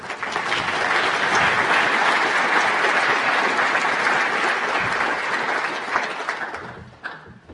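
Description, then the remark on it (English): A crowd gives another round of applause for Governor Lowe after his talk on payment systems, a dense, loud wash of many hands clapping that holds for about six seconds before thinning out and fading near the end. “I think we could do with another round of applause for the Governor, please.”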